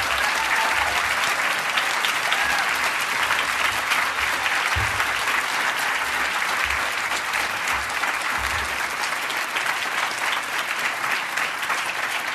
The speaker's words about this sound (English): Okay, I know you guys could stand and applaud for a long time after that performance, but we want to get into some questions.